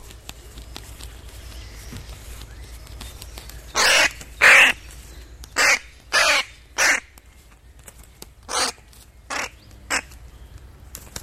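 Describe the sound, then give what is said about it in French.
A crow caws about eight times, loud, in an uneven series that grows shorter and softer toward the end, while faint songbirds chirp quietly in the background. “Essayez maintenant d'écouter les trois en même temps, le croassement du corbeau, le bruissement des ailes et le pépiment des oiseaux.”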